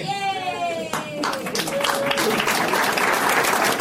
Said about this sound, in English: Very tepid applause. People are not happy for you.